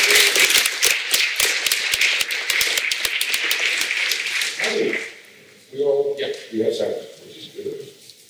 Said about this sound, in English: Please give a welcome round of applause